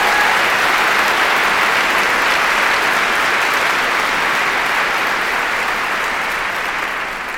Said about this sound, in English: And I'd like you to give a big round of applause for everyone who works at the Wheeler Centre.